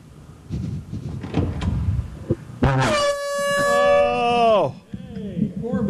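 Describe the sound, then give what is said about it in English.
A loud, sustained air horn blast with a rich stack of harmonics holds for about two seconds before sliding down in pitch, preceded by brief muffled voices and background noise. “I heard a tuba out there and an air horn.”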